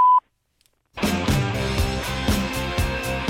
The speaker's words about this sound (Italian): Lasciare un messaggio dopo il beep.